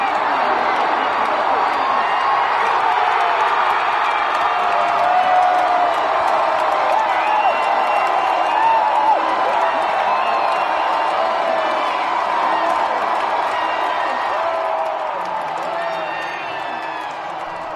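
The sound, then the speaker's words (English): A huge arena crowd roars and cheers as a game ends, recorded on a phone, a dense, continuous wall of shouting and whoops that stays loud throughout before easing slightly in the final few seconds. “And I actually took video on my phone of the moment.”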